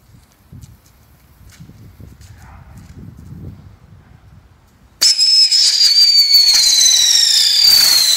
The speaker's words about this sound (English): You ready for some fireworks? Let's get some fireworks. Let's get some fireworks!